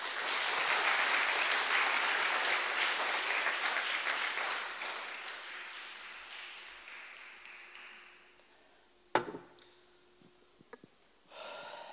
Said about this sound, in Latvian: Dos, ka es aplausu tam kungam.